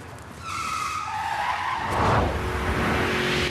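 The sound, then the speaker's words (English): Tires screech loudly as Starsky's red car with white pointed stripes down the side flies out of an underground car park, reverses and spins 180 degrees, the high squeal sliding in pitch over a rising engine roar, then settling into a steady rumble. “A red car with white pointed stripes down the side flies out of the underground car park.”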